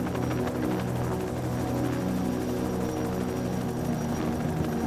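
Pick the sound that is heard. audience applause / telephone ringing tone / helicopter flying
helicopter flying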